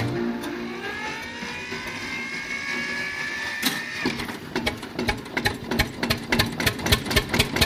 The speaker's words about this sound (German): Hey Bauer, ja ist der Traktor hin? Na na, du alte Schachtel, hat gefeilt leider Benzin. Hey, los an jetzt die Maschine.